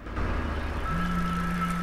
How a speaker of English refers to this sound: A car drives past a row of bare trees.